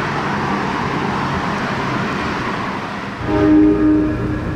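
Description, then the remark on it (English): A subway train rumbles loudly through a station, a broad roar of wheels on rails that swells near the end with a sustained tonal horn or brake whine, no voices. “Where are we meeting this guy? In the subway.”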